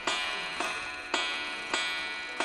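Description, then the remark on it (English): An American (Anglo-American) drop dial clock retailed in New Ross strikes out of phase while being moved forward, five evenly paced metallic blows about half a second apart when it should strike 12, each ringing on into the next, fairly loud with no talking. “Now, I'm a bit embarrassed because what I'm doing here at the moment is I'm trying to move all the clocks forward, and this one is sadly striking out a phase. So it's supposed to be 12 o'clock, and...”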